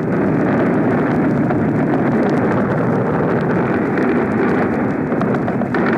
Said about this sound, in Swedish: Ni hör en invasionsbåt som attackeras av tyska plan och låter alla sina kanoner spela upp.